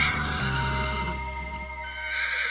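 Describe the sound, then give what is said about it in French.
A horse named Cheval Sacré, gone wild with fury as armor is put on it, neighs loudly, one long, shrill, quavering whinny that wavers in pitch and fills the whole moment with no voices around it. “Quand il voulut passer l'armure de cheval vêtu sur cheval sacré, celui-ci ne le supporta pas et devint fou furieux.”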